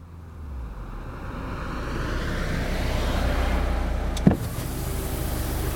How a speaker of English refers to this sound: One day, a car stops at Colin's house.